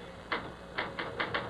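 Five crisp typewriter keystrokes clack in an uneven rhythm, moderately quiet, over a faint steady hiss with no one speaking.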